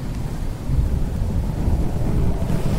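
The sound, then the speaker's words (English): A low, continuous rumble of thunder rolls through a sudden stormy September night in Cleveland, with a steady wash of rain and gusting wind filling the background, loud throughout. “The night before the big release, a sudden storm blew in.”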